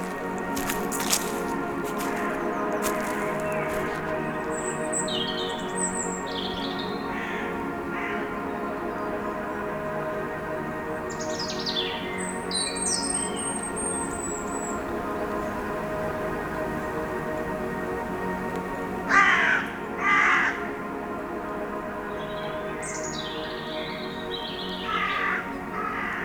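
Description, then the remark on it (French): Birds call in scattered bursts among stones and trees, some harsh and caw-like, with a few sharper cries near the middle, all over a steady low droning background with no talking. “Royaume des pierres, des arbres. Des oiseaux.”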